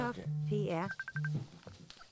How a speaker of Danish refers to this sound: Nu så ringer han. Nu ringer han der.